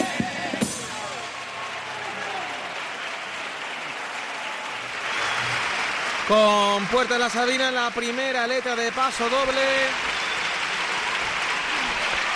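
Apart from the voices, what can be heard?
audience applauding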